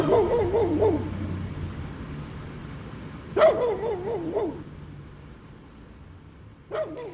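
A dog in Southwest Virginia barks in three separate bursts, each a sharp bark trailing into wavering, yelping tones, with pauses between and a steady low hum in the background.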